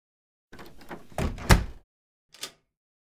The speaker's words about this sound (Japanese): とりあえず、扉閉めちゃおっか。